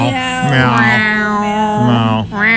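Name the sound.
people imitating cat meows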